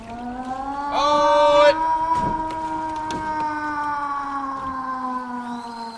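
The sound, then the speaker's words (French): The high-water (acqua alta) flood warning siren in Venice, which sounds when the water rises, sounds a steady, droning tone that holds for several seconds with only a slight waver, loud and continuous, with a brief burst of noise near the start. “La sirena dell'acqua alta. Quando si alza l'acqua scattano le sirene.”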